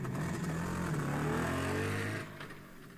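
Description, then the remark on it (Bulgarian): A motorcycle engine revs loudly, its pitch shifting as it pulls away carrying off a tomcat and Prokopcho, then the roar drops off abruptly and fades toward the end. “И мотоциклетът понесъл котаракът и наивния Прокопчо към неизвестното място, където, според думите на Пешо, трябвало да се намира скъпоценния син Плик.”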